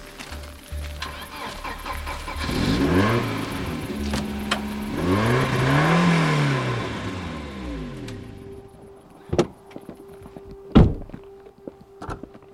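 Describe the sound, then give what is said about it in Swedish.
The engine of one of the Posten (postal service) cars, finished being built last week, cranks and starts, then revs up and down in rising and falling surges before settling, followed by a few sharp, isolated thuds. No one speaks. “Och de här bilarna då, den byggde jag färdig förra veckan, postens bilar. Så jag kan starta upp.”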